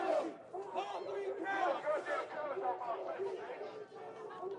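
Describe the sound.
A large crowd of protesters marching peacefully down a street with fists in the air chants and shouts in unison, including 'Say his name, George Floyd', many overlapping voices forming a steady, loud, emotional roar with rising and falling rhythmic phrases throughout.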